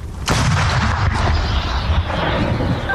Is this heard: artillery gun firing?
yes